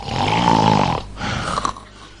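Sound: voice imitating snoring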